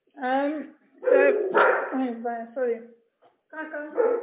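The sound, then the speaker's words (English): The speaker's own dogs bark in a rapid, loud string of yaps and bow-wows, several overlapping bursts with a short pause before the barking starts up again. “Sorry, my dogs are not going to keep quiet.”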